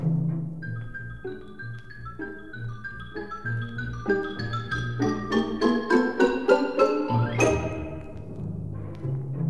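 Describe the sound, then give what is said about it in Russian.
Bright, ringing xylophone notes climb in a quick melodic pattern, joined by crisp snare drum taps and hollow Chinese wood block knocks. The playing grows busier and louder toward the end, with no voices. “Маленький барабан и китайский бок. Ксилофон.”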